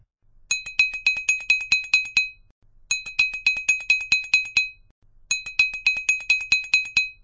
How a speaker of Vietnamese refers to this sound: Đúng vào lúc đó, tiếng chuông vang lên.